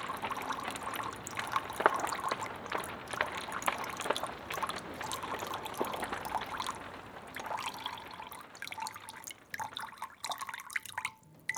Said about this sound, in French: Le clapotis de l'eau. L'eau qui coule, l'eau qui coule, l'eau qui coule, l'eau qui coule, l'eau qui coule, l'eau qui coule.